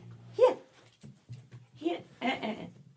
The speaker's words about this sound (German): Entschuldigung, mein Hund nervt deinen Hund.